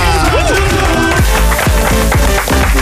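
An audience claps and cheers steadily for a few seconds, the loud, dense applause mixed with a bright music sting whose tones swoop downward repeatedly.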